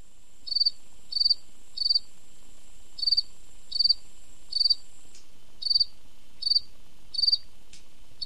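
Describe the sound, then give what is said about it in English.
A fall field cricket in New York City chirps steadily in short, evenly spaced pulses, about ten bright chirps repeating alone against a quiet background, clear. “That's a cricket found here in New York City. And not just any cricket, but a full field cricket.”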